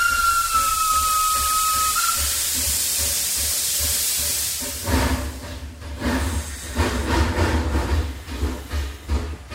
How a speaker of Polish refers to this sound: patrzył, jak ostatni wagon pociągu z Kamiennej Góry do Kowar ginie w bezkresnej czeluści tunelu w Ogorzelcu. Budowlę wykuto w górze, na szczycie której leżała przełęcz kowarska. Miała ponad kilometr długości